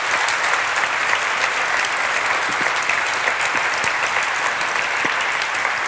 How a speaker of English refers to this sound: Great. Guys, give a warm applause again to